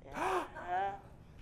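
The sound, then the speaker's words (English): A voice imitates an audience's two short, breathy gasps, heard when a speaker used the word she for God. The gasps come one after another, fairly soft, each with a quick rising-and-falling catch in the breath. “I could hear very, yeah. little gasps.”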